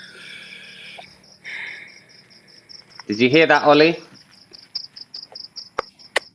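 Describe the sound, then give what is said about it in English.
Crickets chirp steadily in a continuous high, pulsing trill throughout, with a brief burst of a man's speech partway through and a few faint clicks near the end. “Literal crickets.”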